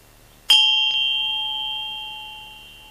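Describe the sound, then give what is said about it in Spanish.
A single bell is struck once, producing a bright metallic ring with a sustained, clear tone that slowly fades over a few seconds. “En el punto de tensión que ha dicho cada uno, dejáis que la campana suene y que no encuentre ningún obstáculo en el interior.”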